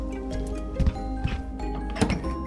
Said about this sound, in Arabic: سمعنا الباب يطرق بصخب شديد، فأسرع جحا لفتحه.